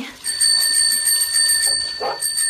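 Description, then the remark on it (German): Bicycle bells rung by a group of friends on bicycles racing after a young girl on a galloping horse: a bright, high metallic trill that rings steadily for over two seconds with a rapid pulsing shimmer that barely pauses, over a faint rustling background. “Klingelnd rasten die Freunde hinter dem jungen Mädchen auf dem Pferd her.”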